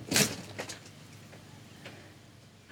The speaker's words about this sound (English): I'm not sure anybody's home. Hello? somebody's opening the door.